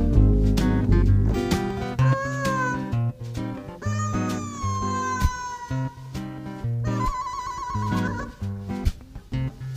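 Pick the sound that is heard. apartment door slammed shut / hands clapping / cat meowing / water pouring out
cat meowing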